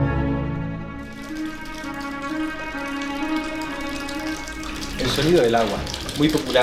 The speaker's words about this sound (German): Der Klang des Wassers. Lauschen Sie mal. Dafür ist Granada berühmt. Ein Geräusch, das einen ständig umgibt.